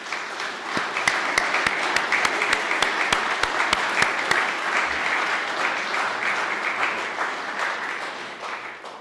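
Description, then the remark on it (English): An audience applauds steadily for about nine seconds, acknowledging the BLM Colorado team at a public lands event: a dense wash of many hands clapping, with a few sharper individual claps standing out early on, then gradually thinning toward the end. “And if the people from the BLM Colorado team could raise your hand, and if you would join me in giving them a round of applause.”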